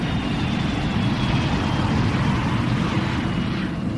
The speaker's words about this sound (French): L'avion décolle.